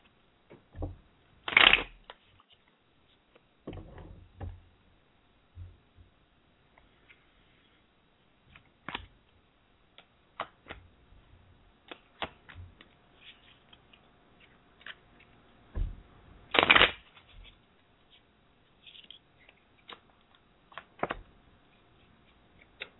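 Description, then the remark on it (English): A Tarot of the Dream Enchantress deck by Lo Scarabeo is shuffled, with two loud riffling bursts separated by a stretch of softer scattered clicks, taps and light card handling. No one speaks. “Give us one moment while we shuffle.”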